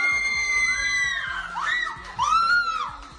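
A pregnant woman screams with joy at a surprise party as a cake with pink cream reveals her baby is a girl, a loud, high-pitched sustained cry that swoops up and down in two long bursts over a background of excited crowd noise.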